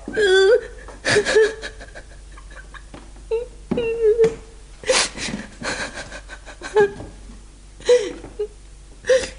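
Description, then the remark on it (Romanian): A person sobs and whimpers in broken, wavering bursts, with shaky high-pitched cries and gasping breaths between them, fairly loud, with no other sounds around. “Nu plânge. Te rog, nu plânge.”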